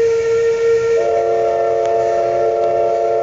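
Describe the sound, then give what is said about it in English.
A loud steam whistle blows continuously at the Icicle Seafood Petersburg Fisheries cannery plant in southeast Alaska on August 11, marking 100,000 cases of canned pink salmon. Its steady tone rises slightly in pitch partway through, with a hissing rush of steam underneath and no voices. “The steam whistle blew August 11th at Icicle Seafood's Petersburg Fisheries Plant, marking 100,000 cases of canned pink salmon.”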